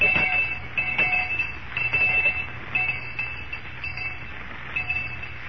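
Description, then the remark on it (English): A school lunch bell rings continuously for several seconds, a loud, shrill metallic clatter with a steady high tone that pulses slightly but never stops. No one speaks. “All right, Miss Perkins, I'll ring the lunch bell.”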